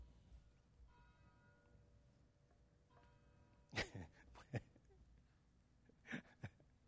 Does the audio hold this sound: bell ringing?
yes